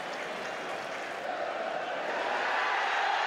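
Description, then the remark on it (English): A dense, continuous roar from a stadium crowd in South Africa in 1995 cheering, with Nelson Mandela, as the president hands over to captain Francois Pienaar amid a sea of flags, a broad wash of voices that holds steady and swells slightly louder toward the end, with no distinct words. “And Nelson Mandela is cheering along with the whole of the stadium.”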